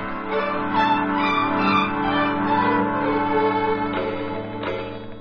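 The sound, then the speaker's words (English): Chimes of a just-repaired clock, now running forward again, ring out in a steady, overlapping wash of bell-like tones, fairly loud, with a couple of fresh strikes near the end and no voices. “Got the chimes going, too.”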